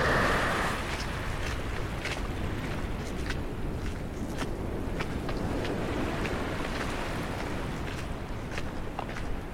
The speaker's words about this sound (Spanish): La arena se siente fría en tus pies. y las olas producen un sonido que hipnotiza. El viento te envuelve como si fuera una manta fría.